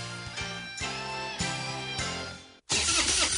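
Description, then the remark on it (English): A truck engine cranks over and over with a rhythmic, whining churn of the starter that never catches, then cuts off briefly before a loud, rough rushing noise takes over. “When your truck won't start or your boat or ATV leaves you stranded far from home, that's not good.”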